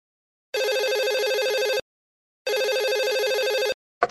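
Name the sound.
telephone ringing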